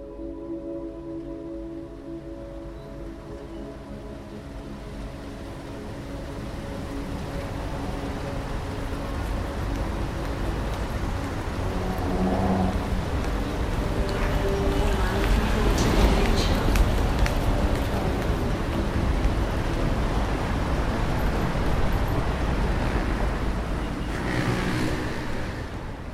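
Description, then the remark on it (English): A continuous city traffic hum, a dense wash of rumbling noise with steady low engine drones underneath, swelling slightly louder midway and surging briefly near the end, much like surf. “Sometimes I think the city sounds like an ocean. The sound travels from the ground up. It's this hush, a hum, crash and swell, an urban ocean breaking against the shore.”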